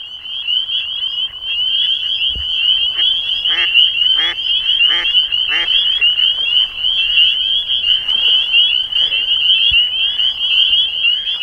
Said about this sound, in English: To attract females, male spring peeper frogs fill their vocal sacs and expel a mighty peep. This species of frog, pound for pound, might make the loudest sound in nature.